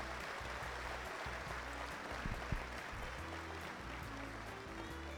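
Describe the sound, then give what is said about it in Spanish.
An audience at an awards ceremony applauds the families accompanying the award winners steadily for about five seconds, a dense, even wash of many hands clapping at once with no speech over it. “Un aplauso para todas las familias que acompañan hoy a las galardonados, porque realmente este premio es de todos ustedes.”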